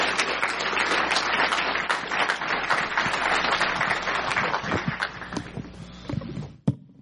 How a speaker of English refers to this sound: Would you all give him a round of applause, please?